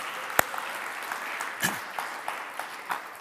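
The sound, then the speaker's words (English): A church audience claps in a steady wash of applause in praise of God during a service, fairly soft and roomy, with a sharp clap near the start and a brief cheer rising partway through. “Do you think he's worthy of a hand clap, maybe a shout of praise?”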